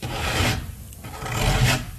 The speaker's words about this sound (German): Wo kommt das denn her? Es klingt wie ein Kratzen.